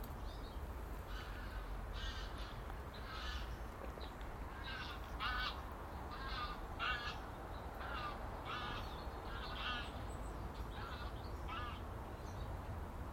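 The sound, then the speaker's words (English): Two birds flying together, though quite a bit apart, trade harsh, honking calls over and over, a steady series of cries above a constant low outdoor rumble on a calm, cold day, with no one speaking. “Almost sounded like geese, didn't it? It wasn't, it was two birds flying together, but apart, if that makes sense.”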